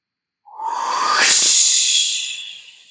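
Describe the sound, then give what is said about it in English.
A single forceful, breathy whoosh of air pushed out through the mouth during a breathing exercise, after a deep inhale through the nose and a held breath, starting abruptly, swelling into a loud hiss and tapering off over a couple of seconds, alone. “Release all the air inside of you. Make a whoosh sound as you exhale.”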